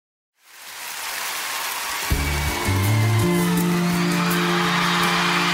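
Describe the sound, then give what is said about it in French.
A steady wash of crowd applause and cheering at a 2002 live concert at Bercy swells up and holds loud, with music entering underneath after a couple of seconds, low sustained notes joining the ongoing noise. “Il faut oubliez les applaudissures puis les cris.”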